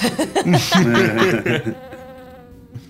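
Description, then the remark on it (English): A wavering buzz that rises and falls in pitch for about a second and a half, sounding like a voice imitating a little bee buzzing around someone, then fading into quieter room noise. “You see a little bee buzzing around him.”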